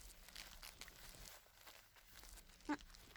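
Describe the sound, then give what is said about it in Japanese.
Quiet crinkling and rustling of plastic-backed material, with soft scratchy bursts and a brief sharp rip or snap near the end, like adhesive tape tabs being pulled and fastened from below while the front is held in place. “それで、前を押さえて、テープは下からだったよね。”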